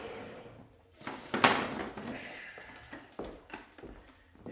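Clatter of two chairs being fitted into one another: a sharp scraping knock, then a few lighter bumps and rattles as the furniture settles.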